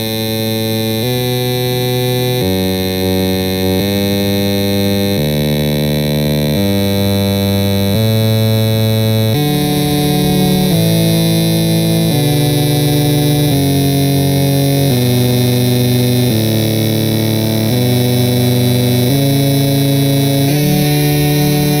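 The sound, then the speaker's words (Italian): A harsh, buzzing insect-like drone, a cicada fitted with implants and turned into a machine for playing music, steps through Pachelbel's Canon in D, one sustained note every second or so, loud and steady throughout with no voices. “Quello che però lo sta generando è il suono di una cicala trasformata in macchina per suonare.”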